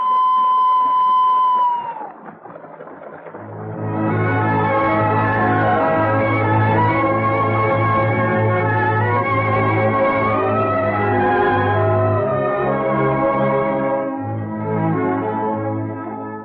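A whistle is blown in one long, steady, high blast that droops in pitch as it cuts off, and after a brief pause lively music swells up and carries on.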